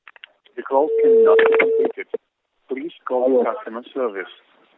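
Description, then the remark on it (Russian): A steady electronic telephone tone sounds once for about a second, clear, while voices talk over and around it. “Алло, да хватит уже звонить.”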